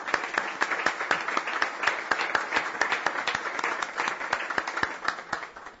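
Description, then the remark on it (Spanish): People at a Guareña town council session applaud in tribute to Jerónimo Martín after a minute of silence, steadily for about six seconds, many overlapping hand claps forming a dense, even patter at moderate loudness, with no voices heard. “Finalizado el minuto de silencio, rindámosle el aplauso que se merece.”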